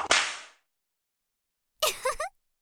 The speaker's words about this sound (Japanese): ご主人様、お尻から行くよ。痛いから我慢してね。マジでムチ振る3秒前。 2、1。 えい。